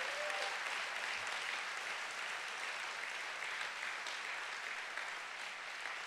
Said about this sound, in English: Can we first of all, before he even comes up, just give him a hand clap and a shout and a Grace Chapel welcome.